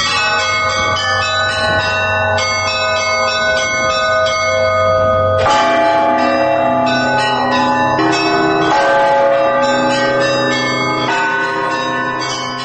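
church bell being struck

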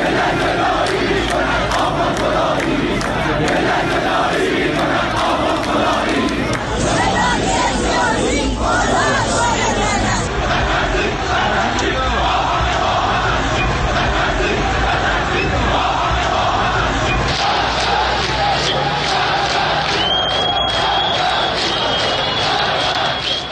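protest crowd chanting slogans

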